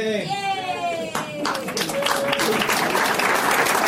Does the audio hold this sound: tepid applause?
yes